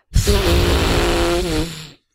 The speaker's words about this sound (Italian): La signora Troll si soffiò il nasone con il suo fazzolettino rosa.